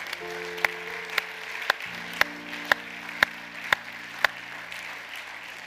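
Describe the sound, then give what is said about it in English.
An audience claps in steady unison, about nine sharp beats evenly spaced roughly half a second apart, over held low keyboard chords that shift partway through and a soft crowd hiss. “Can we give him a hand clap right now?”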